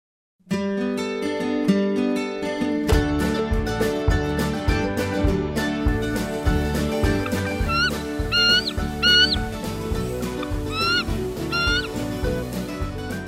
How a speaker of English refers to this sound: Ah, the sound of an eagle there. We're talking about bald eagles on the show today.